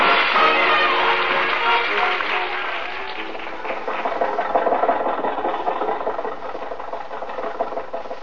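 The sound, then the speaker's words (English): Jack's car, driven by Rochester, climbs a hill, its engine laboring steadily with a rough, rattling roar that stays loud throughout, dipping slightly midway before surging again as more gas is given, with no voices over it. “think your car will make this hill, Jack?”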